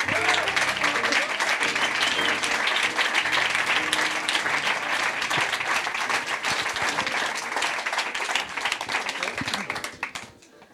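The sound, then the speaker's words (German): Sustained audience applause welcoming guests being introduced at a live event, a dense steady wash of many hands clapping at full volume for about ten seconds before fading out quickly at the end; some indistinct voices mix into the crowd noise. “Das war doch schon mal ein schöner Applaus, oder?”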